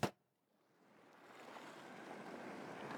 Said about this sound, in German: Also bis gleich, lass dich hineinfallen, lass dich führen und verführen von dem Meeresrauschen im Hintergrund.